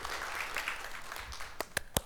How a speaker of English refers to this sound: Thank you guys so much. That was a poor applause, wasn't it? How do you recover from that?